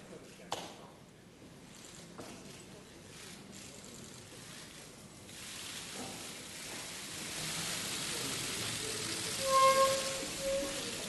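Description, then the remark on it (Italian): A dense, rapid patter of camera shutter clicks from many photographers photographing Italy's President of the Republic as he leaves consultations, a steady crackling flurry like rain that swells louder toward the end, with faint voices murmuring underneath. “Naturalmente pioggia di scatti fotografici, di fotografi, ascoltiamo.”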